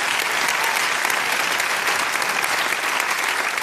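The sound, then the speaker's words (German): A crowd applauds steadily, a dense wash of many hands clapping at once that stays loud and even throughout, with no voices standing out. “Ja, kann man auch klatschen.”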